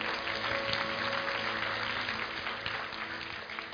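A crowd claps steadily to thank a speaker for his message after a prayer, a dense wash of many hands that holds level for nearly four seconds before easing off slightly at the end, with no voices over it.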